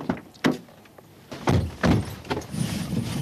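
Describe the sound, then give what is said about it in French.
A few solid thumps of car doors shutting, with rustling and shuffling as people climb into a car, fairly loud, then a steady low rumble at the end. “Donc on monte dans votre voiture?”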